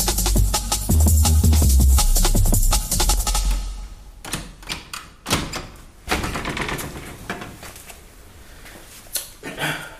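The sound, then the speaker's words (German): A heavy door thuds and rumbles shut, followed by several seconds of sharp, irregular clicks and rattles as a lock is worked and turned. No one speaks. “Ich würde sagen, ich schließe jetzt erstmal die Tür zu, bis die sich beruhigt haben und dann sehen wir weiter.”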